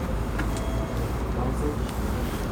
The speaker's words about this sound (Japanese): 今音源回してますこのトラム今2階にやってきたんですけど、窓が全開でございまして、 雨どうするんですか。 雨の時はなんか閉まるのか閉まらないのかわからない、まあ、一応閉まりそうな窓がございます。